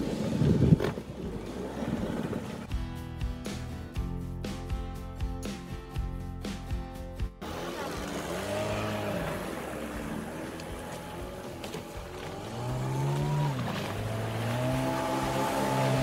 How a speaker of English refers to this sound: Now we will see the performance of the boat, which is completely finished and ready for use with the engine installed.